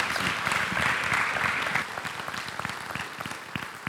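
A crowd applauds with dense, steady clapping that thins out partway through into scattered, less intense claps, with no voices audible.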